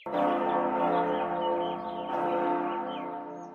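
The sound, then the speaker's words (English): A loud, resonant bell at a very large door rings with a rich, sustained tone, struck again about two seconds in, its shimmering overtones lingering and slowly decaying. No voices are heard. “Who rang that bell? I did.”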